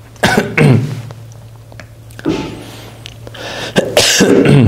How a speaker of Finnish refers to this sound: Anteeksi. Ikävä yskiä varsinkin tämmöisenä korona-aikana. Liikaa puhumista.